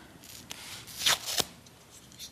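A small cardboard pinhole camera, a simple cube box with a small hole, is handled: quiet papery rustles, then a sharper scrape and a crisp click near the middle, with no voices.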